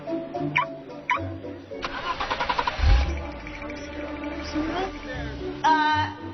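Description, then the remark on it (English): A couple of short electronic chirps, then the Ewan LaCrosse car is started with its remote activation feature: the starter cranks in quick rhythmic pulses before the engine catches with a low rumble and settles into a steady idle. “Observe the remote activation feature.”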